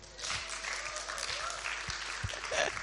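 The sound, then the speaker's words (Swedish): An audience applauds in a steady, dense patter of clapping that holds at an even level for about three seconds, with a few sharper individual claps standing out. The applause is for two people called forward for a small competition. “Ge dem en applåd.”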